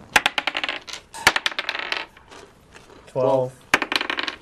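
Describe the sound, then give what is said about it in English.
Three eight-sided dice (3d8) clatter across a hard surface for a damage roll, in quick bursts of sharp, bright clicks that bounce and settle, broken by a short voiced hum before one last rattling tumble. “Roll, Oh, damage? 3d8.”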